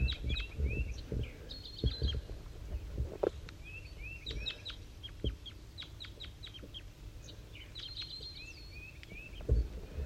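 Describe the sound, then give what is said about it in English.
Two birds, one known as 5-3 and a wild bird, call back and forth at 7:50 a.m., trading bursts of short, high chirping and clucking notes in a loose, repeating rhythm over a steady low rumble. 5-3 sounds slightly higher than the wild bird, which is up in the top of a dead pine. “and 5-3 and the wild bird are communicating here.”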